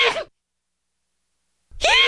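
human body sound, loud human sneeze

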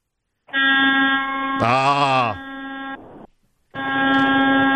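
signal or alarm, horn blast

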